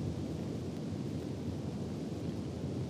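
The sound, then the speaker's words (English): A steady, dense roar of a storm fills the space, heavy low rumbling thunder blending with a constant wash of rain and gusting wind, loud and unbroken throughout with no voices. “In a flash of lightning. Then a damp gust, bringing rain.”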